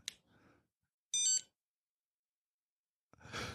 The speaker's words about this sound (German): Dieses lustige Geräusch im Hintergrund. Ach, das Telefon ist Carsten, was klingelt. Das Telefon, was sich meldet.